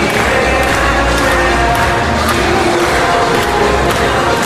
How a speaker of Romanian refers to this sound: 4 dintre ei sunt aduși de la delfinariul din Harkov, din Ucraina, iar reprezentațiile mamiferelor stârnesc multe aplauze.